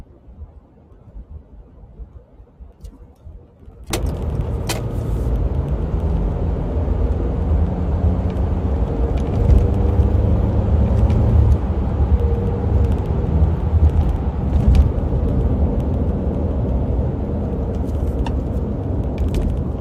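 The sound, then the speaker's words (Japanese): A car driving through a tunnel for about a minute: after a few quieter seconds, a loud, steady roar of road and engine noise abruptly swells and holds, deep rumbling with a hissy wash, no voices. “ちょっと一瞬ですね、今車を運転しててトンネルに1分ほど入るので切れちゃうかもしれません。”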